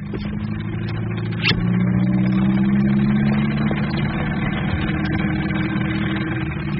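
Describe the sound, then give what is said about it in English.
A car engine runs steadily with a low, droning hum and a faint rising whine, broken by one brief sharp click early on. No one speaks. “I can turn the car radio on if you'd rather.”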